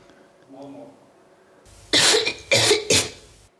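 Three sharp, loud coughs in quick succession with brief pauses between, preceded by a faint murmur; a repeated take of cough number 6 in a numbered series of recorded coughs.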